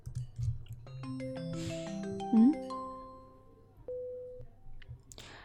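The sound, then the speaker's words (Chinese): Electronic telephone tones ring out in a quick stepped sequence of steady beeps, overlapping and fairly close, ending on one longer held tone over a faint low background hum, with no talking. “今天你们是组团给我打电话吗？”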